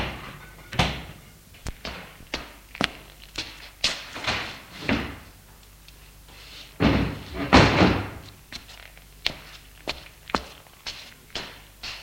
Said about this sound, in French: sort de voiture pour ouvrir le portail.